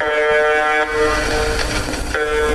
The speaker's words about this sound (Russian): Так называемая русская жужжалка на частоте 4. Это вот это она и жужжит, ну-ка.